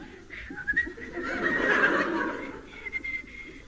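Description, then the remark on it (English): A Boy Scout whistles a bright, wandering merry tune for a few seconds, the notes sliding up and down with a cheerful lilt, clear with no talking. “The Boy Scout keeps his spirits up by whistling the merry tune.”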